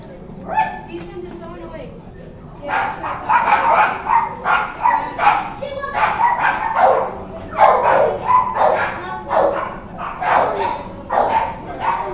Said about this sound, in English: Pretty noisy in here, as you can tell. The animals are being, well, animals. There's hundreds of dogs in here.